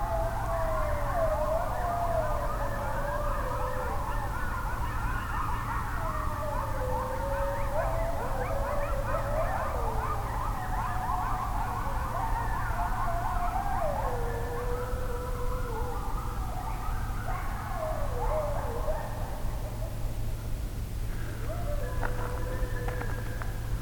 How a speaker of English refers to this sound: These are coyotes, also known as the song dogs.